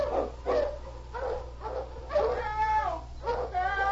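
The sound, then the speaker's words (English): Several Malamute sled dogs bark and whine excitedly in quick, overlapping bursts, with high yelping cries between the barks, steady throughout, over a low background hum. “On King! On your Malamutes!”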